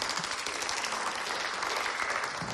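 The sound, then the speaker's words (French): Steady applause from an audience at a conference workshop for a speaker, a dense wash of many hands clapping at once, fairly loud and sustained throughout without any talking over it. “On peut applaudir aussi.”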